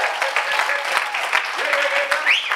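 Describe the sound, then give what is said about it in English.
A large audience at the Pentecostals of Portland church applauds warmly in appreciation of their pastor and pastor's wife, a dense, steady wash of clapping, with a few sustained cheers or whoops rising above it toward the end. “If you love your pastor and pastor's wife, why don't you give them a hand clap of appreciation?”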